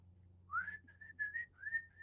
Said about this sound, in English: For the people who are listening to the podcast, he was whistling.